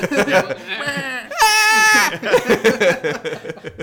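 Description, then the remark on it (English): A person shrieks a short, wavering, bleating cry imitating the goat-like scream of the raptors in the Jurassic Park game, loud, between bursts of ordinary conversation. “They scream too, don't they? Mm-hmm. Like, wah! Like goats.”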